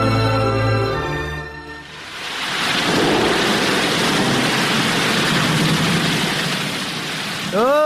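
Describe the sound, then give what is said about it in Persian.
A loud, steady roar of rushing flood water in a radio drama swells in after a brief tonal opening and pours on continuously, with a short voice-like sound breaking in at the very end. “رالا بخی که سیل آمد.”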